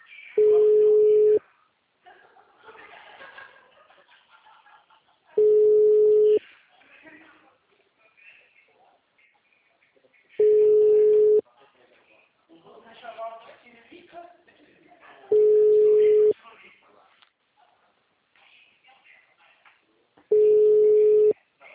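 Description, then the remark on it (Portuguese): A telephone ringback tone repeats five times, each a steady mid-pitched beep about a second long, spaced roughly five seconds apart, with faint chatter in the gaps and no answer. “Telefone? O número não responde.”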